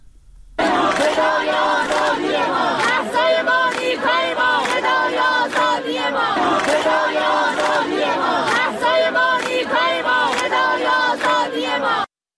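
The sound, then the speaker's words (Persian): A large crowd of University of Tehran students in Iran chants in protest, voices rising and falling together in a steady repeated rhythm, loud and sustained throughout with no pauses. “صدای دانشجویان دانشگاه تهران رو می‌خواستم پخش کنم.”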